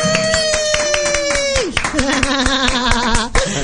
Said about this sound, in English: I thought you nodded at me to start clapping.